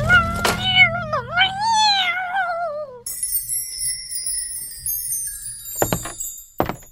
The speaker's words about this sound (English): The cat! A terrible wound to her eye! What? Her eye, it's been torn out, poor thing!